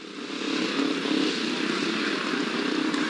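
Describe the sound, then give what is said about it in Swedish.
A sustained, loud engine drone from motorcycles at a national-level ice racing competition in Kuusankoski on a very cold winter day in the early 1980s: a steady buzzing roar with a slight rise in the first half second and no talking. “Platsen är Kuusankoski och här hölls en tävling i isracing på nationell nivå.”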